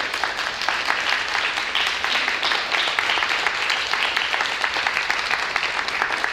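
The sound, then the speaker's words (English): A church audience applauds the church's volunteers, who are standing up, steadily for several seconds, many hands clapping into a dense, even wash of sharp slaps with no voices above it. “There's a whole bunch of people in here, and I love for everyone else to just applaud them because these guys are the ones.”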